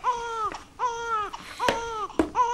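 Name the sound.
crying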